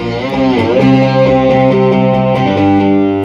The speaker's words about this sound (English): Do you mind walking us through some of the sounds you get out of the cigar box guitar through the pedals? Okay, this is a distortion pedal.